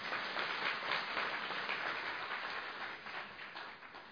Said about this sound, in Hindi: तालियां तो बजाओ भाई।